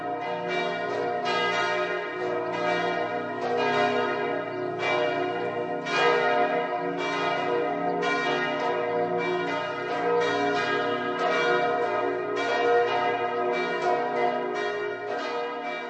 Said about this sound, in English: The bells of Mělník ringing in Easter Sunday, a time of great joy, of course, in the Christian calendar.